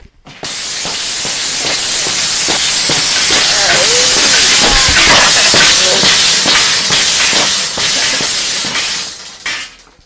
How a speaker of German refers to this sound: Dann leiten sie die Feuerkraft in einen Finger. Sie versuchen, die Türe aufzuschweißen.